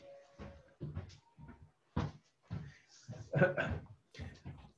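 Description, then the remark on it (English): A door is opened with a series of short knocks and rattles from the latch and frame, while muffled voices carry on in the background. “We'll have to go open this door so I can hear what's going on.”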